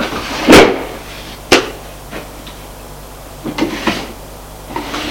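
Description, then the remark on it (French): Drawers of chests of drawers slide and knock open and shut in an apartment living room as it is searched: a loud thump, a second sharp clunk, then several softer wooden scrapes and taps spread over a few seconds, with no voices. “Ouvre les tiroirs.”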